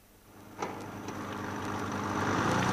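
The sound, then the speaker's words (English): A car engine runs steadily with a low, droning hum, growing gradually louder over a few seconds after a brief knock near the start. No one speaks. “Penny Omnibus be damned. I'll go in my car.”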